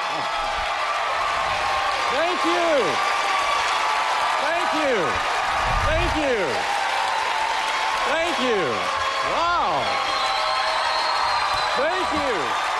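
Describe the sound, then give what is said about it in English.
A large crowd at the Brooklyn Academy of Music in New York claps in a dense, steady roar as Tim Cook takes the stage at an Apple event, while rising-and-falling whoops and cheers break out again and again over the applause. “It's a big crowd, it sounds like.”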